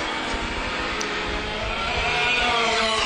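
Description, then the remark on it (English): A dense, steady roar of race car engines running around a dirt track during heat number five as the white flag flies for the final lap, with the noise building slightly toward the end and no voices. “White flag flies for Gallup as he has about eight car lengths on the second place car, cruising through three and four right now”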